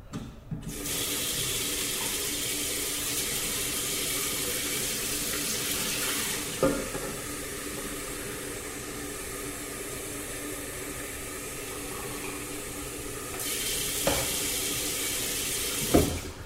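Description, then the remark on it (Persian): A kitchen tap runs steadily into a pot, filling it with cold water for several seconds, a continuous rushing stream with a few small clanks near the start and end, without speech. “من یه قابلمه رو آب سرد میکنم، میذارم کنار دستم.”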